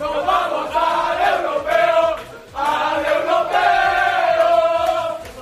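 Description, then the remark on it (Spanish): Spain's Under-21 national football team celebrates qualifying for the 2019 European Championship after a 3-0 win over Albania: a group of men shout and chant together in loud, sustained bursts, their overlapping voices rising and falling, with a brief lull midway before the cheering surges back. “Gritos de alegría porque la selección española Sub-21 efectivamente se clasificó ayer para el Europeo 2019.”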